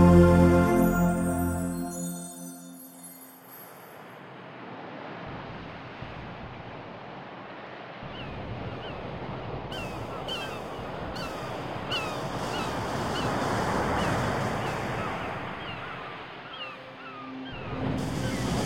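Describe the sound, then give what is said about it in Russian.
Sea waves wash steadily onto a shore, a continuous rushing surf that swells and recedes, with faint high bird calls over it. A brief tonal sound fades out at the very start. “В состоянии расслабления представь, что ты находишься на берегу моря.”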